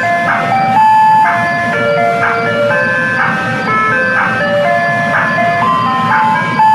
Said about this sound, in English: Don't forget, kids, when you're picking up that firecracker, to ask the ice cream man for ….